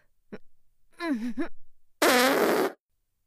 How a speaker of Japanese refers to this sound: それじゃ、あなたの顔にお尻を向けて。いいかしら。まずはおならから始めるわよ。